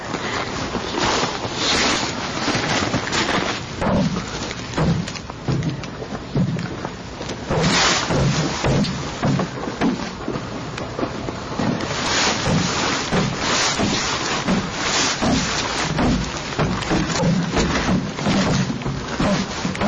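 Footsteps crunch over slushy, melting snow and crunchy remnants of ice, a steady irregular series of gritty crunches beneath a constant rush of wind and outdoor noise. No one speaks.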